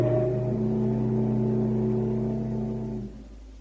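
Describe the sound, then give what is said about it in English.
A ship's engines start up at full steam ahead, humming with a steady, loud, tonal drone for about three seconds, then the level drops near the end. No one speaks. “Tell the engine room, full steam ahead.”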